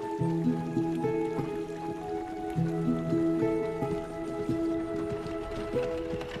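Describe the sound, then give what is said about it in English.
A steady, gentle babble of flowing stream water runs throughout, with soft, slow melodic notes ringing over it and no voices. “Soon the chariot came near a stream.”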